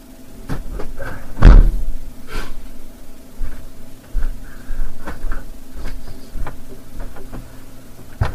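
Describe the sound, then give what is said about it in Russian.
A series of irregular taps and soft knocks on a window, with one louder bang early on, like a cat pawing at the glass. The knocks are scattered amid quiet background noise, with no voices. “Просто кошка стучится в окно.”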